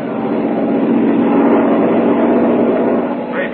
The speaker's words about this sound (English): But what of the coal? Perhaps tomorrow the Americans will have it for us. Perhaps it is on that very train we are hearing now.